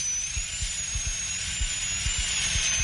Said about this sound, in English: I'm drilling out the old filling now.